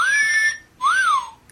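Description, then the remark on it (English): A whistle sound effect: two clear whistle tones, the first a steady rising note and the second an arching slide up and back down, loud, with a brief gap between them and no talking. “Here's Whistle.”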